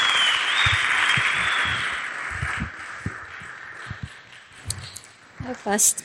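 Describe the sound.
A church audience claps, a dense wash of applause that steadily fades over the first few seconds, with scattered low thumps, then a voice begins to speak at the end.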